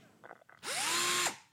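A cordless screwdriver motor whirs up quickly, holds a steady, high buzzing whine for under a second, then cuts off, after a few faint clicks. No one speaks.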